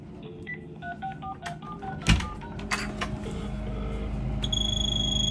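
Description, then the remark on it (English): A telephone rings with an unusual electronic tone: short melodic beeps, a dull knock, then a sustained high warbling ring near the end, all over a steady low mechanical rumble. “Then the ringing phone should.”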